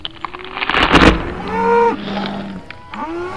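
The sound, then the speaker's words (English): Cows moo in drawn-out, strained bellows just after a sharp, heavy impact as a blow from a giant tree branch launches several of them into the air, with a couple of overlapping calls and a final rising moo at the end. “A blow from a giant tree branch launches several cows into the air.”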